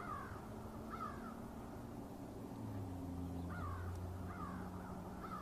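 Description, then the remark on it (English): Crows caw repeatedly outdoors in short harsh bursts from all directions, over a steady low rumble of distant traffic from Highway 7. “The most interesting thing, of course, is the birds at this time of the day. You can hear them in all directions.”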